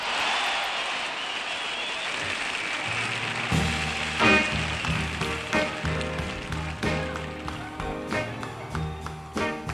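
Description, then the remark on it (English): A crowd claps and applauds steadily for a few seconds in a warm welcome for a male performer, then a band starts playing and the applause continues underneath the rhythmic music. “I'd like to have you welcome now with a warm round of applause a man whose voice everybody would like to have,”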